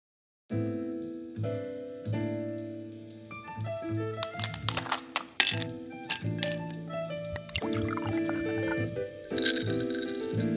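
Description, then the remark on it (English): Glasses clink together in a toast several times in quick, bright bursts, ringing over a steady, tonal musical background. The clinks are fairly loud, clustered in the middle and again near the end. “And with that, cheers, as we go behind the scenes of Listening In.”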